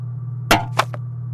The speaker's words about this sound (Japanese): いつも聞こえるんだ。ほら、そこのドアポスト、もうすぐそこに手紙が入れられる。